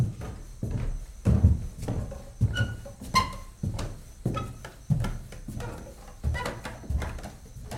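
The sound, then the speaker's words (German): Steady, heavy footsteps thud up the wooden steps of a veranda as a person climbs to knock at the door, about a dozen evenly paced treads, with faint creaks of the boards between them and no voices. “läuft die Stufen der Veranda nach oben, um an die Tür zu klopfen.”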